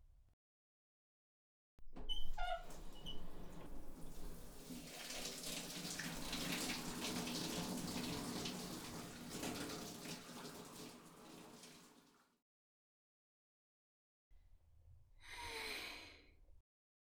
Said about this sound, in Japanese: 気持ちいいシャワーだわ。本当に君の家のバスルームって広いのね。